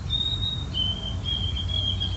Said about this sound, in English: White-throated sparrow, which I found a bunch of different white-throated sparrow calls on the... One of my favorites, the Cornell ornithology app.